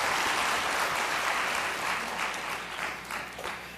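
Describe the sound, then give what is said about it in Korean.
An audience claps steadily for a few seconds, a dense crackle of many hands that stays loud before easing off slightly toward the end, with no voices over it. “다시 한번 박수를 보내달라고 하기가 그랬습니다.”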